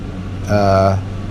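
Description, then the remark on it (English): An air conditioner runs with a steady low hum and faint hiss throughout, while a short voiced sound rises over it briefly in the middle. “Oh, sorry about the air conditioner.”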